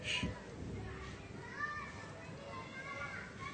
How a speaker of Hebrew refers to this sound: לדוגמה, אתם שומעים את הילדים בגן הילדים? תקשיבו.